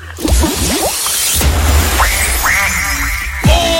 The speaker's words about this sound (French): Ce fameux canard qu'on attend, il est là! Il est là, regardez mon beau canard!